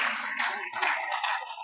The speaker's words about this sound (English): Go ahead and give the Lord another hand clap of praise.